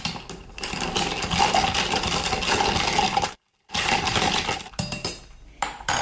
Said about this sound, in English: Okay, so back to my cocktail shaker. I'm going to add some ice in here. So I'm just going to give this a quick stir just to cool the cocktail down.